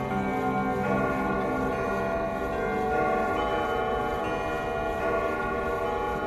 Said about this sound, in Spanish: Al compás del descubrimiento dieron las 12 de la noche, entonces todos los relojes estallaron sus escalofriantes campanadas.